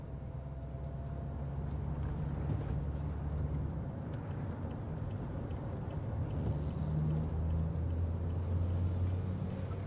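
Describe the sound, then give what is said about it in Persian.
A car speeds through traffic, running a red light, with a steady, heavy engine rumble and road roar that holds constant throughout, a faint high whine pulsing above it. Nobody speaks. “آره چراغ قرمز رو رد کن، میدونا رو خلاف جهت دور بزن. میخوای ماشین داغون بشه؟”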